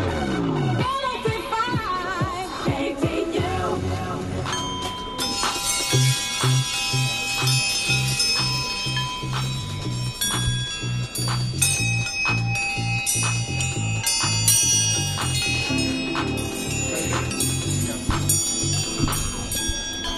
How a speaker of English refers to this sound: You can see some pictures of Mungo Thompson's coat check chimes at studio360.org.